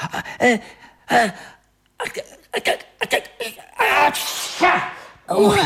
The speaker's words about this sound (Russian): Карлсон, от твоего чиха с пола поднимается целое облако пыли. Угадай, кто лучший в мире чихальщик?